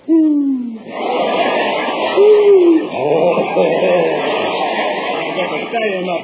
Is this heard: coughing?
no